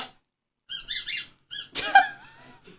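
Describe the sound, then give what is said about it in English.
A squeaky rubber chicken dog toy lets out several loud, high, wheezy squawks in quick bursts, the last one drawn out and wavering, with no voices. “She was asleep and she put chicken like on the mat and she rolled over and it just went squeeze.”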